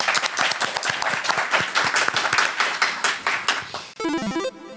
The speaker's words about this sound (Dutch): Applaus voor Barend, mensen. Ja.